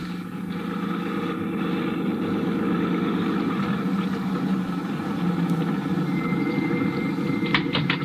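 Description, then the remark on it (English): A car engine runs steadily with a low, continuous rumble and hum, fairly loud throughout, with a couple of faint clicks near the end and no talking. “I've got my car right downstairs.”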